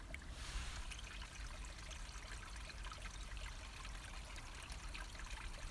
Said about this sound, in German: Es ist plötzlich sehr, sehr ruhig, sehr still und hin und wieder plätschert ein Mini-Bächlein den Berg herunter.